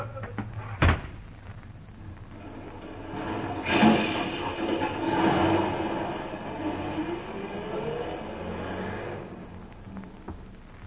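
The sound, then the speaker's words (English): A single sharp door slam bangs out near the start as a woman is thrown out onto the Capitol streets, followed by a long, steady rumbling and clattering like a passing train that swells and fades over several seconds. No one speaks. “All right, hold that door open there. Now, come along, come along. Out you go!”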